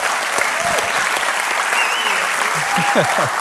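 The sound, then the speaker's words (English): A room full of people claps steadily for a man being thanked for his service, a dense, sustained wash of applause with faint scattered voices mixed underneath, holding even throughout. “raise your hand so people know who you're clapping at.”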